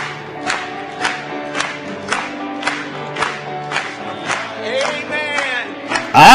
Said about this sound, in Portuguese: Louvado seja Deus! Batamos palmas para Ele hoje.